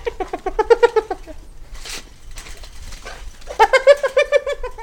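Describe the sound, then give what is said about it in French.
Frustrated hyenas without access to food, near feeding dominant hyenas, giggle in two bursts of rapid, high-pitched staccato yelps, one at the start and another near the end, separated by a stretch of quieter rustling and breathy noise. “faire l'hypothèse que les hyènes frustrées, donc n'ont pas accès à la nourriture, rigolent, et que les autres hyènes, les dominantes, qui elles sont en train de se nourrir, ont intérêt à calmer les autres pour éviter de voir les lions rappliquer.”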